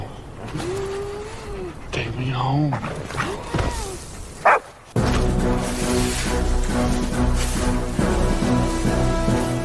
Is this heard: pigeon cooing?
no